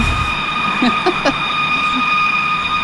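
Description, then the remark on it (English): A high-pitched metallic grating sound, seemingly coming from the sky, drones steadily, layered with shrill whining tones and a few brief scraping swells, loud and continuous with no voices. “Well, this one's more of that metallic grating sound people describe, more high-pitched.”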